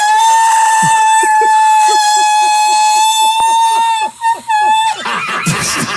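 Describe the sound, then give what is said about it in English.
A voice holds one loud, steady, high-pitched note for about five seconds, trying to shatter a wine glass. The note cuts off into a short burst of noisy, crackling sound. “Breaking a wine glass with your voice.”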